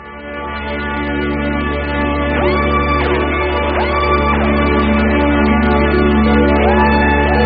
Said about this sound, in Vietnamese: Để rồi, bây giờ chúng tổ chức cuộc biểu tình đó ở Hà Nội, chúng cũng reo hò gầm thét đả đảo chính quyền miền Nam.